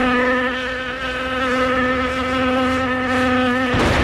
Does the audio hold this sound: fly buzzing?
yes